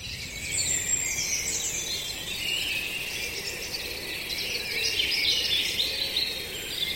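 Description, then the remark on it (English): A dense spring dawn chorus around sunrise, many birds singing to hold territories and attract mates, overlapping high chirps and trills forming a steady, continuous wash of sound with no one speaking. “either side of sunrise, about an hour either side, you can just hear that incredible soundtrack of spring.”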